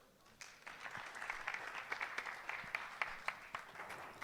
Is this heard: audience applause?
yes